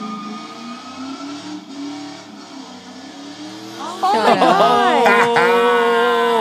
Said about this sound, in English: Why is the car doing that? Can someone explain? He's burning out. He's burning tire.